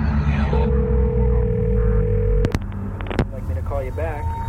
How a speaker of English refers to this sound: The phone is ringing.